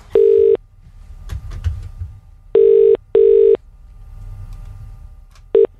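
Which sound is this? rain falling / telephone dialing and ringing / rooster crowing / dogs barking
telephone dialing and ringing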